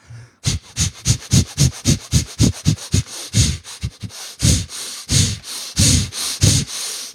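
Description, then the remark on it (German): A person demonstrates the chaotic, arrhythmic breathing of dynamic meditation: rapid, forceful breaths huff in and out, around twenty sharp sniffing bursts in quick succession, turning slightly longer and more ragged toward the end, with no talking. “10 Minuten, atmen, volle Kanne. Also es ist atmen, wie du noch nie geatmet hast.”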